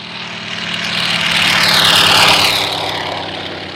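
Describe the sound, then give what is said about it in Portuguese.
A propeller airplane engine drones loudly overhead as the plane drops thousands of kilos of grass and legume seeds over fire-hit slopes in central Portugal, swelling as the plane passes by and then easing slightly as it moves away, with no voices. “A partir de um avião dromedário são lançados milhares de quilos de sementes de gramíneas e leguminosas em 50 hectares de 6 municípios da região centro.”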